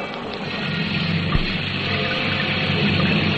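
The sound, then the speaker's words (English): Heavy rain pours down in a steady, dense hiss that holds at an even loudness throughout, with one brief low thump partway through and no voices. “Until the rain.”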